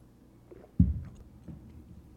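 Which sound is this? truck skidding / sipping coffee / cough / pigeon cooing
sipping coffee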